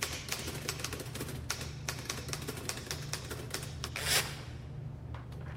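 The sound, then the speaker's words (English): Rapid, irregular clacking of keys on a QWERTY keyboard, steady typing with sharp taps over a low hum, with no voices. “QWERTY keyboard, how do you plead?”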